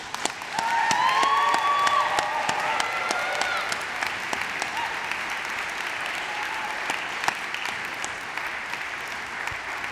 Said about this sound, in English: I want to thank also the staff of the Memorial Church, who are just the most lovely and hardworking group of people. They have worked so much. Can we give them applause? Yeah.